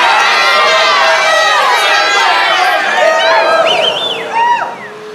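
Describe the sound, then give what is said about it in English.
A large crowd roars and cheers continuously, a dense wall of overlapping shouts and yells with a few high whoops rising near the end before the noise begins to ease off. “Then from 5,000 throats and more, there rose a lusty yell.”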